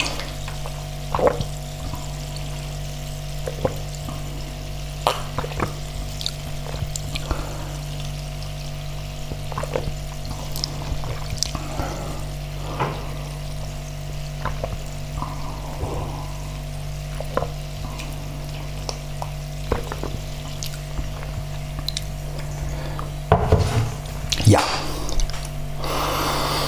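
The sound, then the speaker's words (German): Water is poured into a glass to go with coffee, with splashy trickles, drips and small clinks over a steady low mechanical hum, and a brief louder gush near the end. No one speaks. “Jetzt noch ein schönes Wasser dazu. Zum Kaffee.”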